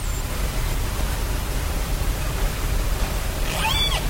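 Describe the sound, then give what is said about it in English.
Underwater recording from equipment placed near the busy shipping lanes off Vancouver Island, Canada: a constant deep rumble under a dense wash of hiss, steady in level throughout, with a few faint high whistling sweeps just before the end. “That is sound recorded with equipment placed underwater near the busy shipping lanes off Vancouver Island in Canada.”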